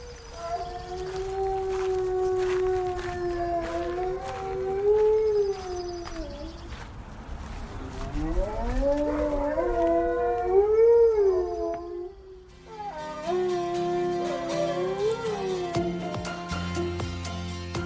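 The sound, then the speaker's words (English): A wolf-malamute hybrid dog howls in long, wavering, rising and falling tones, several drawn-out howls in a row, loud with no talking. “And Justice sent us this of his wolf-malamute hybrid.”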